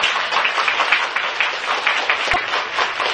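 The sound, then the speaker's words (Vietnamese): A crowd applauds steadily for the parents, dense overlapping claps filling the space at a strong, even level throughout, with no one speaking over it. “Như con cái, cho các bậc cha mẹ một tràng pháo tay quý vị.”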